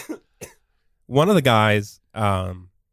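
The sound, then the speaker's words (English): Two quick, dry coughs, followed by a pair of longer voiced, throaty sounds after a short pause. “That was just a cough.”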